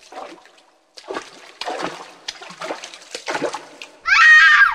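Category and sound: sound effect, water sloshing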